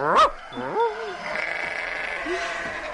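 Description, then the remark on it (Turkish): Several sheep, scattered as far as the edge of a dervish lodge garden, bleat in quick succession, wavering calls overlapping, with a soft outdoor background hiss and a few fainter bleats trailing later. “Koyunlar da her tarafa dağıldılar.”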